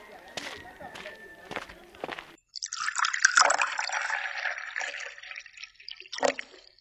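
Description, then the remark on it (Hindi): A few sharp knocks and footsteps give way to a steady splashing of water, like pouring and rinsing, as someone washes their hands and feet, running for several seconds before a final splash. “चलो तुम पैर हाथ धो लो”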